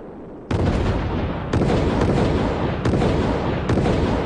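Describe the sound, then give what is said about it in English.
A series of loud, sharp explosive bangs from a test flight, about five in quick irregular succession, each bursting over a continuous roaring rumble that fills the gaps between them. No one speaks. “There's a film that shows this thing going bang, bang, bang, and up it goes a ways.”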